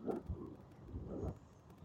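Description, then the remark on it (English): Low, continuous engine rumble from cars rolling past in traffic as more cars come in, lined up coming down a hill, swelling and easing at moderate loudness over a couple of seconds, with no one talking. “So there's more cars coming in.”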